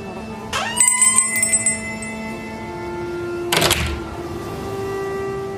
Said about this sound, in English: Did you hear what happened there? Someone entered the witch's bric-a-brac shop, half-price turquoise. But of course, again, there's a bell.